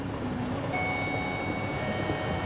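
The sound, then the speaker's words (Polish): A steady, rumbling train-like noise with low mechanical churning and a faint high whine, continuous throughout, no voices, as the train 'Fantazja' departs from the 'station' of Primary School No. 8 in Chełm. “Pociąg Fantazja relacji. Wierszykowo-tuwimowo odjeżdża ze stacji Szkoły Podstawowej nr 8 w Chełmie.”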